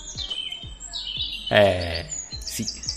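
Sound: small bird chirping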